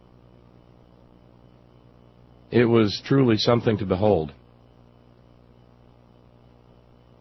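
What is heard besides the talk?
helicopter flying overhead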